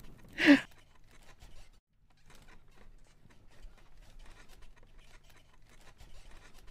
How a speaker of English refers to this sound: Oh, what a cute little yawn. Are you tired, sweetie?